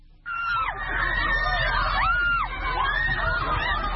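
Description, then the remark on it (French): Dozens of women protesters chanting "Don't take our jobs" against the Taliban's ban on beauty salons, their massed high-pitched voices starting abruptly and rising and falling together in loud, sustained waves with no single voice standing out. “Les manifestantes ont scandé « Ne prenez pas nos emplois »”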